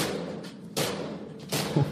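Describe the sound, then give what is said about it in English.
A man stuck in an elevator bangs heavily on its metal door: two loud, boomy impacts about three-quarters of a second apart over a dull background rumble, with a smaller knock at the end. No one speaks. “He's banging it.”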